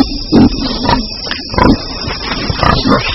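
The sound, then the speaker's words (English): A group of red river hogs in the African forest, gathered at a fall of fruit, grunt in a busy overlapping chorus, several low, rough snorts and squeals bursting out every half second or so over a constant rustling background, with no talking. “a mob of red river hogs.”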